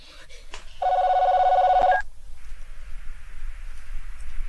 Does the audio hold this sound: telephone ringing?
yes